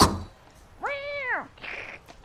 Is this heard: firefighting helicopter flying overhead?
no